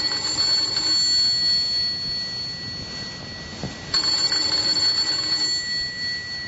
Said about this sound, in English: Let's begin this tale with the ringing of a doorbell.